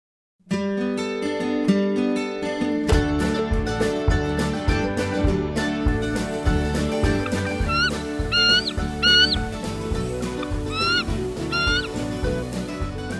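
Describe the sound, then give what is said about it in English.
A bald eagle gives several high, chittering calls in quick bursts partway through, layered over steady rhythmic instrumental music that plays throughout. “Ah, the sound of an eagle there.”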